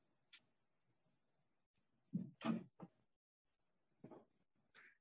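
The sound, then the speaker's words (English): A pocket door slides open with a few short clunks and a brief rolling rattle, followed by a quieter knock and a light click, with no talking. “Then from this bedroom, there's a pocket door that leads down to a hallway, closets along the hallway.”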